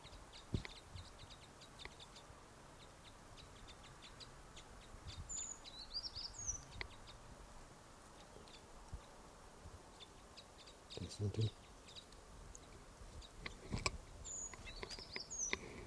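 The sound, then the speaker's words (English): A few sharp, high alarm calls from one bird of a flock ring out in two brief bursts, fairly faint over a quiet outdoor background hum. “There was a toot there, or alarm call, by one of the birds.”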